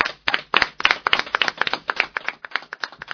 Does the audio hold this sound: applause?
yes